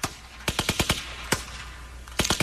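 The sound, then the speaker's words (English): Sharp rifle gunshots crack in quick rhythmic bursts, a cluster of five, a lone shot, then another tight volley, forming the percussive beat of a song over a low steady hum. “It's made out of gunshots. Gunshots are the beat.”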